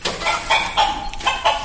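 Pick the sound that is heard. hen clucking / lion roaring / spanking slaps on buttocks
hen clucking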